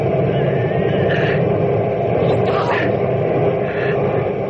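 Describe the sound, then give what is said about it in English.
A small airplane's engine drones loudly and steadily throughout, a dense rumble as the plane touches down, with faint muffled voices now and then beneath the noise. “I'm down. I made it. Don't taxi. Hit the brakes. Cut your engine.”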